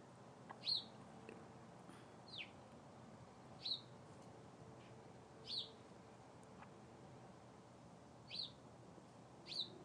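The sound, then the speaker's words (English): A bird in a tree in the next-door neighbor's yard repeats short, high chirping calls about six times at uneven intervals, each note clear but modest in volume against a quiet, faintly hissing background. “I always think birds are more visible than they are.”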